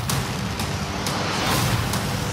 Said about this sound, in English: If you like things blowing up and special effects, this movie will definitely deliver on all that stuff. So it tells the story of aliens coming down invading Earth. And this is a sequel.